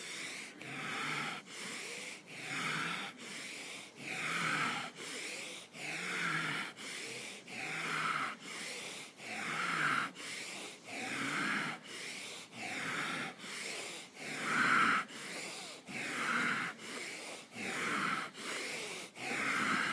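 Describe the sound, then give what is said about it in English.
Steady, deep breathing, with repeated airy inhales and exhales in an even rhythm of roughly one breath per second, continuing throughout with no speech; a person breathing through a spinal flex-and-curl exercise, inhaling while flexing and exhaling while curling. “Inhaling as you flex. Exhale as you curl.”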